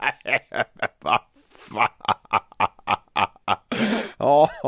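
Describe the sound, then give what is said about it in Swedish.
A man imitates an elephant with a quick, rhythmic series of short nasal grunting bursts, fairly loud, ending in a longer, strained trumpeting wail. “Men det där är … elefant.”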